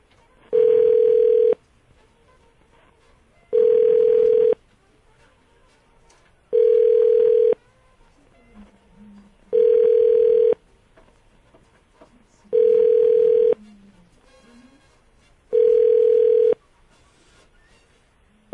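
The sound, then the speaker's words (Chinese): A telephone ringback tone sounds six times, each steady beep lasting about a second and a half with even pauses between, loud and clear as a man's call to his wife rings on unanswered. “曹小姐不接你电话呢， 她现在是五号码，她都不想接”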